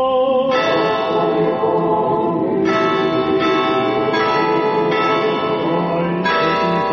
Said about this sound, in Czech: Zvona iz najvećeg pravoslavnog hrama u Srbiji označila su početak molitve u znak podrške kako je uoči ovog skupa saopštila Srpska pravoslavna crkva srpskom narodu u Crnoj Gori.